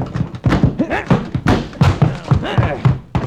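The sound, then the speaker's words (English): A house door is smashed in with a series of heavy, irregular thuds and thumps, mixed with grunting voices and scuffling over about three seconds. “Knocking won't help this time. Smash it in.”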